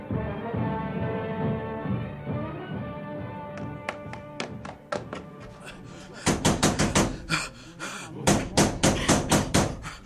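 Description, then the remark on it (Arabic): Urgent knocking on a door: scattered raps begin under a sustained voice chanting a Quran recitation, then loud, rapid knocks pound in repeated bursts, insistent. “افتحي، افتحي الباب يا أم حكيم، افتحي الباب يا امرأة.”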